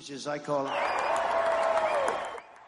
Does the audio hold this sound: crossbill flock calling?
no